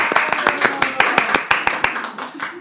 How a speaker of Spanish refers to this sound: ¡Aplauso!